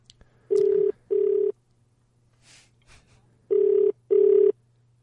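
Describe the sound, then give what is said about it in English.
An outgoing call to a man's phone rings twice in a double-burst pattern, pauses, then rings two more times, a steady electronic tone heard alone over a faint background hum. “are we getting him there? Is it ringing?”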